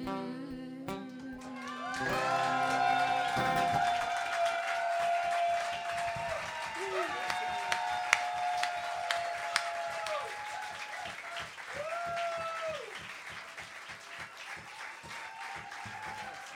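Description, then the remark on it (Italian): A crowd applauds the guitar player steadily throughout, dense clapping mixed with loud cheering and high shouted voices rising over it, with a few sharper claps standing out before it eases slightly toward the end. “Un applauso alla chitarra.”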